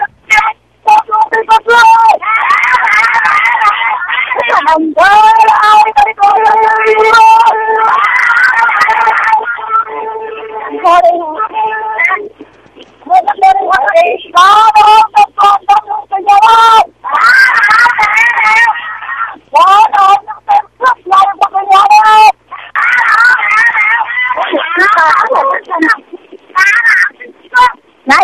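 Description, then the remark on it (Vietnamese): A crowd of protesters from Hà Nam province, Vietnam, shouts and chants in loud, repeated bursts with short pauses between them, heard through a thin, tinny phone-like channel that makes the voices sound compressed. “có những tiếng hô của những người dân ở tỉnh Hà Nam”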